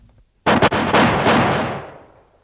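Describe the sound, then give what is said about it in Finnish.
A firing squad's rifle volley, fired on the command "Tulta!" at men standing by a sauna wall in the snow: several shots crack out almost together in a ragged, loud burst, then a long rumbling echo slowly fades away. No voices are heard. “Tulta!”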